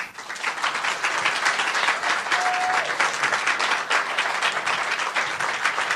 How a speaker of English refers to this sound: Applause for Sylvia Fowles, the most valuable player of the 2017 WNBA Finals and the most valuable player of the WNBA during the regular season.